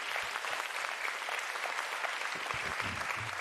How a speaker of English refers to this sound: Can you give the Lord a hand clap of praise?